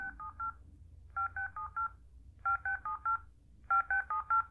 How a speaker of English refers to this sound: Now, if I press the yes button, you're going to hear the tones, some tones played automatically, but the volume will begin to change. Listen, I'm pressing the yes button.